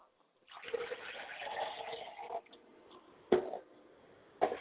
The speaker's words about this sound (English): I pour water to the ground, and I say, Ashe, may the words and the roots take up and spring up and grow as someone comes and waters it.